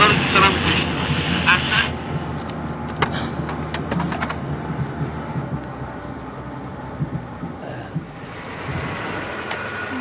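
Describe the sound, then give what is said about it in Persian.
A loud old taxi car engine runs steadily, a rough, droning rumble that stays constant for the whole stretch, with some rattly, windy noise riding on top. “خاموش کن داداش، اعصاب داری ها. ماشینت سر صداش خیلی زیاده، اعصاب آدم هم خورد میکنه.”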